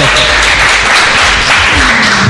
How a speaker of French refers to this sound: Et d'abord, merci au public d'être venu si nombreux. Et il va nous applaudir là. Allez ! Plus fort ! On est dans un stade de foot.